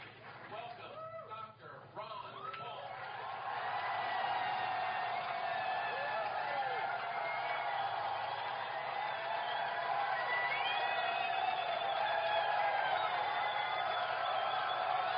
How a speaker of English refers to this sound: Just listen to this crowd. It's absolutely phenomenal. What other candidate gets this kind of support?